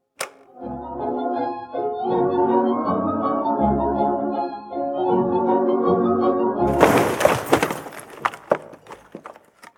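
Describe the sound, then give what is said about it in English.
The Savoy Band's dance music plays steadily, then is cut off by a sudden loud blast-like crash as the Savoy Hotel in London is blown up by a crowd, dissolving into a few seconds of crackling, splintering debris noise. “That noise which you heard just now was the Savoy Hotel being blown up by the crowd”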